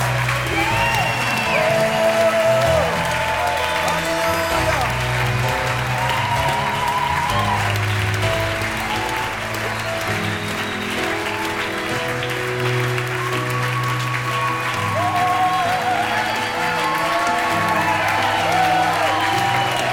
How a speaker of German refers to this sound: Ja, wenn wir unserem Vater im Himmel einen Applaus geben.